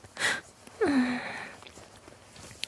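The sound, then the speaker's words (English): Sniffling: a quick wet sniff, then a brief breathy whimper that slides downward in pitch before fading into quiet room noise. No one speaks. “Oh, baby, you're sniffling, hey?”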